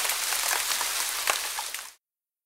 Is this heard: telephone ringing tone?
no